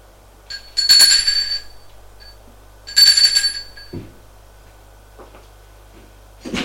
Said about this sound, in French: Arrivé à l'étage, il va sonner à la porte.